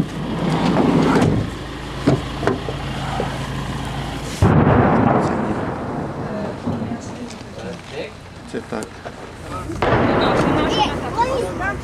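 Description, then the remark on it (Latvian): Deep, rumbling booms of distant shelling explosions roll in repeatedly, heard constantly, each blast followed by a long echoing rumble, with a faint mutter of voices and outdoor background noise in between. “Visu laiku šeit ir dzirdami sprādzienu trokšņi un tā tas izklausās.”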